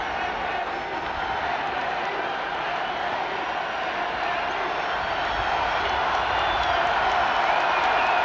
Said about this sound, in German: Das dauert noch eine Zeit lang, bis dieser Jubel verebbt.